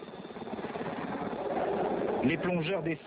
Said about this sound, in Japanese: 遠くに軍のヘリコプターが見えました。しかしすぐには私たちに気づいてくれません。再びヘリがやってきました。どうやら助かりそうです。